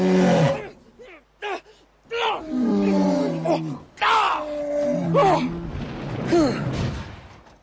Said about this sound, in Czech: Nikdy jsem tak obrovského medvěda neviděl.